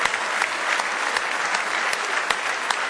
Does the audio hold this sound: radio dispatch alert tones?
no